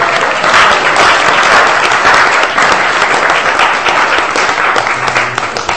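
A room full of people claps steadily for several seconds, a dense, even patter of many hands that stays loud throughout and tapers only slightly at the end.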